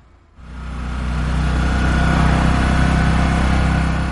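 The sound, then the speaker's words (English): A small, rattly tuk tuk engine in Johannesburg kicks in after a brief quiet moment and keeps running steadily, loud, with a constant low throbbing drone and no voices. “Tuk Tuks aren't fast, but they zip through traffic jams, quickly getting passengers to their destinations, although they struggle up hills.”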